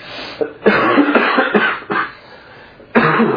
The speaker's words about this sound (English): Y'all bear with me. I'm sorry. I've got a cough. I can't kick.